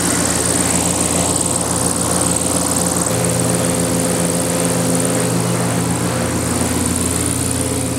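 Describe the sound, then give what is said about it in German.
Zeppelin airship engines start up with a loud, steady propeller drone. About three seconds in, the hum jumps to a higher, fuller pitch as the engines rev and settle into a continuous roar. No one speaks. “So, jetzt sind wir im Zeppelin drin.”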